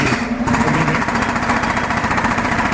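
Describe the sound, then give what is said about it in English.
A big drill hammers loudly and continuously, its rapid, rattling pulses churning with no voices over it for the whole stretch. “It was like a big drill out there.”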